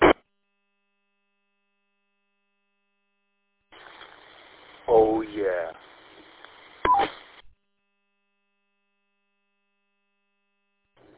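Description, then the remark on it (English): A crackly, narrowband CB radio transmission carries a brief voice, then closes with a short electronic roger beep tone just before the channel drops to silence. “Oh, Roger, beep, really?”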